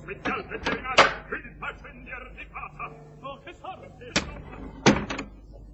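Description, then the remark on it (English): A theatre box door is worked open and shut, giving a few sharp wooden clunks and a solid thud near the end, while indistinct voices murmur underneath. “Come on, open the box door, darling.”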